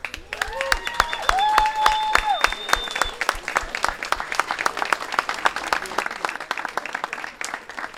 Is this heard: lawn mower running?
no